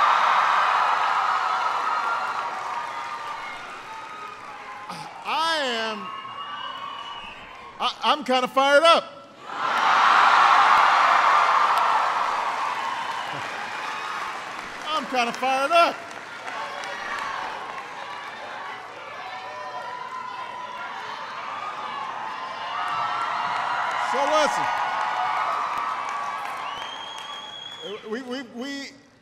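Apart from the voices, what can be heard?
crowd cheering and applauding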